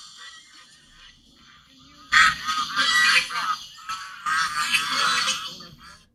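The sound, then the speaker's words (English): Ducks and swans call loudly at a pond as a child throws bitten pieces of apple at them, in harsh, overlapping honking bursts after a quiet opening, with a brief lull before a second raucous stretch. No one speaks. “he was biting pieces of this apple and then throwing it at these ducks and swans”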